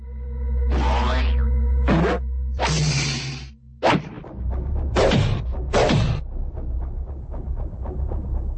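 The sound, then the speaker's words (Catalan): A rapid flurry of cartoon-style whooshes, whacks and thuds, several swishing punches followed by heavy impacts, ending in a run of smaller scattered thumps over a low steady rumble. “Es va enrabiar tant que va començar a repartir cops de puny a tort i a dret.”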